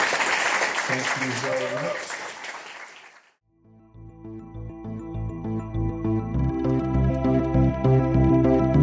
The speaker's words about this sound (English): I think we can end this first panel. Can we have a round of applause for our audience?